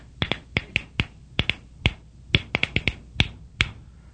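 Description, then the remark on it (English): Sharp, crisp clicks of a Geiger counter crackle irregularly, about sixteen quick ticks in bursts and gaps over four seconds, moderately loud, with no talking. “In the abstract, rhythm is about event programming, kind of like a Geiger counter. Here's our current background radiation. Here's if you sit too close to the TV in your hotel room.”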